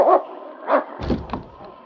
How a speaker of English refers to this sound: threw himself against the door of the lodge, barking a demand for the sergeant's attention.